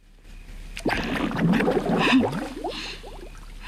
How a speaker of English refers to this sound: The water bubbles.